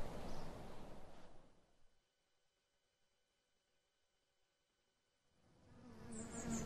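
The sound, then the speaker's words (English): A dense, droning buzz of a clustered bee swarm swells loudly at the start, drops to a faint hum for a few seconds, then rises again toward the end. “It's a nice-looking swarm.”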